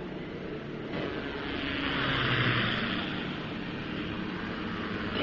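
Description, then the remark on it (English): A steady, heavy roar of approaching helicopters, swelling louder toward the middle and holding as a dense rumble of engines and rotors. No voices are heard. “There. Coming choppers.”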